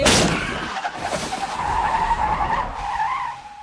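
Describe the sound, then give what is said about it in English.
In a movie scene, a loud burst opens into a car's tires skidding as a deer suddenly hits the front of the car, a sustained, wavering squeal that holds for a few seconds before fading, intense with no voices present. “They're having a conversation and laughing, and then all of a sudden a deer hits the front of the car.”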